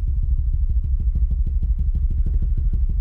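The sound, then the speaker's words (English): A voice imitates a drum roll with a rapid, steady fluttering buzz, low and rumbling, held at an even, fairly loud level for about three seconds with no talking. “Give you a drum roll again.”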